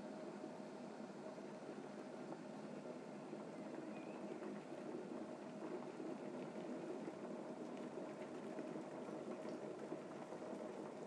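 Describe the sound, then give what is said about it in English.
A steady, rolling bubble and hiss of water boiling in a pan, continuous and even throughout at a moderate level, with no voices over it. “Sounds like it's boiling though.”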